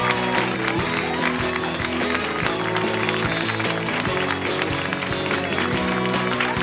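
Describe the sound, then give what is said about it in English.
An audience at a live show applauds steadily for several seconds to welcome Pete Holmes, a dense, continuous wash of many hands clapping at an even loudness, with a sustained tonal backing underneath. “But it's going to be a really fun show tonight, so please put your hands together in a repeated clapping motion for Mr. Pete Holmes from You Made It Weird.”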